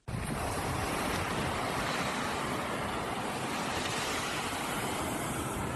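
Steady roar of Atlantic Ocean surf breaking on the shore of the West Point peninsula in Monrovia, Liberia, a continuous wash of waves with some wind noise, loud, with no voices.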